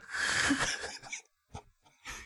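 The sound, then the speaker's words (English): Loud, raspy breathing: one long heavy exhale, a pause, then two shorter harsh breaths with gaps between them. “You breathe so loud.”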